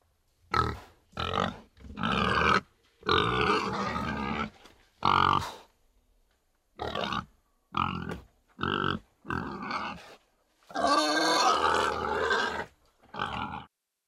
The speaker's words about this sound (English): That one was a little silly. Did you know what animal that was? If you guessed pig, you are correct.